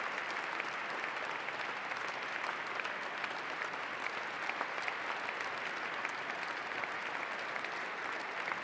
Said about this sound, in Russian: Аплодирует, аплодирует, он всегда аплодирует.